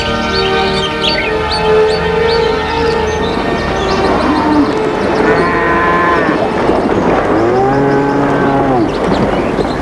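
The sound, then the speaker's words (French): Several cows moo loudly, their long, drawn-out calls overlapping one after another with hardly a pause across the whole stretch, as the cows are brought into the barn. “Puis, ils ont rentré les vaches à l'étable.”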